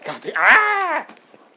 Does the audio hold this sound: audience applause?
no